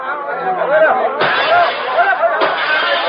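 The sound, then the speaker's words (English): A dense crowd of rioters swarming the streets around a dwelling clamors at once, a loud, steady roar of overlapping shouts and chatter with no single voice standing out, like an unruly mob. “Before we had calmed down, the streets around our dwelling were swarming with rioters.”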